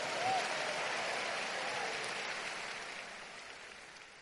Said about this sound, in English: Make that clap bigger for the Lord.